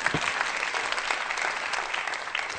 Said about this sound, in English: And so those of you in this audience who've helped build those applications and those platforms as an organizer, I say thank you very much. Really, I clap for you.